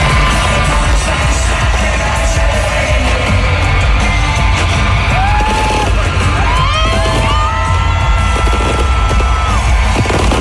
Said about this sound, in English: and they end it with a full-on fireworks show at T-Mobile Park. I saw some people on social media posting videos of it, and it sounded like this.